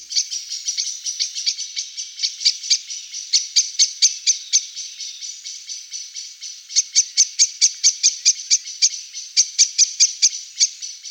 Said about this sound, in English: blackbirds will often end the day with a chinking chorus.